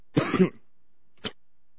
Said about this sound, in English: Goodness me, I'm sorry, I hate coughing on the air.